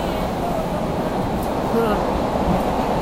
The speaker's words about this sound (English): Whoa. Hope this train don't break down.